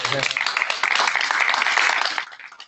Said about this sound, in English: I had a couple people, we'll clap at the end. Actually, no, we can clap now. Thank you so much.